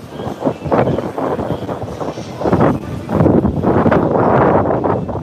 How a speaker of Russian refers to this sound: Ветер какой, вы видите? Слушай, ветрило страшный. Вот мы тут стоим, тут ветра мало. Тут ветра мало.